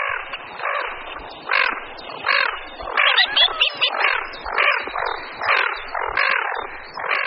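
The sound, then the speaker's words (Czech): Harsh, hoarse growling calls from common pochards, a diving duck, repeated in rasping bursts with several birds overlapping, continuous, with no talking. “Hlas je chraptivé vrčení, ptáci se jim ozývají jak na hladině, tak při vyrušení a také při vzletu.”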